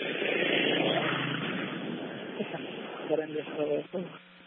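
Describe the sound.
A car rushes past on a street, its broad engine and road noise loudest at first and fading away, heard through a muffled phone line with faint voices near the end.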